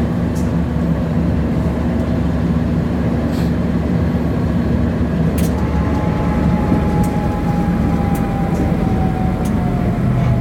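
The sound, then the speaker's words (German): A tram drives on toward its next stop, rolling steadily along its rails with a constant low rumble and engine hum, a faint rising whine, and occasional light clicks and rattles, heard from on board. “Gut, so, jetzt fahren wir weiter. Bis in die Haltestelle und auch an der Haltestelle halt mal wieder ganz vorn, weil nur vorne der Fahrgast die Haltestelle betreten und verlassen kann.”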